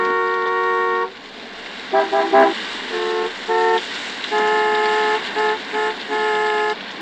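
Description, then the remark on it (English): Car horns honk repeatedly and loudly, a long blast followed by a flurry of short and sustained toots in an irregular rhythm, with no talking; cars honking at a driver doing the school drop-off wrong. “Why are they all honking?”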